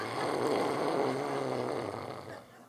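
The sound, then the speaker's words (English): A voice imitates how a man snored after falling asleep leaning back in his chair: one long, rough, rattling inhale-like rasp lasting a couple of seconds, fading slightly at the end. “Anyway, Errol, once, this was years ago, he fell asleep, so much so that he leant back in his chair and was snoring like this.”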